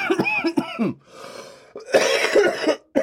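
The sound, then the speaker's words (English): Harsh, raspy coughing after smoking from a glass piece: a quick series of hacking coughs, a wheezy breath, then another rough burst of coughs before it trails off. “I'm sorry for all the coughing.”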